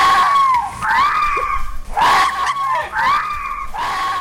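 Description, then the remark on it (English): Foxes screaming outside a house: a series of loud, harsh, rising-and-falling shrieks, about four of them in quick succession, with no talking over them. “Here's the foxes outside my house.”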